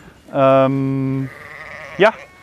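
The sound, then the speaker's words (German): A sheep bleats loudly in a long, wavering cry, followed a moment later by a short, sharp second bleat. “Der Orientierungssinn von Schafen.”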